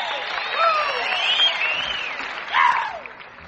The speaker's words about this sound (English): Which brings us down to the time when we welcome our guest. So what do you say we bring him on with a great big Grand Ole Opry round of applause?